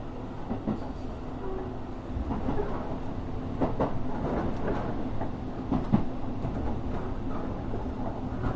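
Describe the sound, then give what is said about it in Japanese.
A local one-man commuter train bound for Ōbu, Japan, runs steadily. Its continuous low rumble is punctuated by faint rhythmic clatter of wheels over rail joints, with no voices. “この列車は普通列車の大府行きワンマン列車です。”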